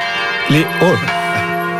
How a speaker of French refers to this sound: Les cloches sonnent, on est à quelques jours de Pâques, effectivement.